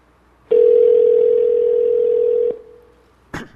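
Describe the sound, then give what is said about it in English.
A phone call to a mobile number ringing out on an iPhone: one steady, two-second ringback tone plays clearly and alone, fades briefly, then a short click follows near the end. No one speaks. “I'll call his mobile number right now. And now we are calling Johnny here.”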